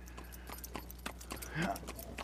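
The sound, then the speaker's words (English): Horse hooves clip-clopping in a steady, even rhythm as a horse and buggy passes, over a low constant hum, with a brief higher tonal sound partway through. “A horse and buggy.”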